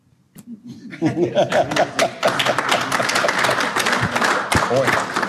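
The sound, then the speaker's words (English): An audience bursts into steady applause, a dense crackle of many hands clapping that swells quickly and holds, with some cheering and laughter mixed in at the start. “Applause or what I had to say?”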